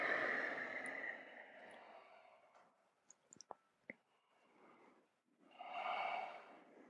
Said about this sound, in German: Sehr schön. Und atmet tief ein und tief aus.